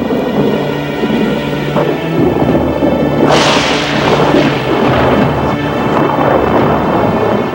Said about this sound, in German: Wenn ein Blitz in einen Baum einschlägt, kann rasch ein Waldbrand entstehen.